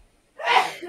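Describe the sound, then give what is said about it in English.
A single sharp sneeze bursts out after a moment of near silence, breathy and bright, fairly loud, with no talking around it. “Bless you.”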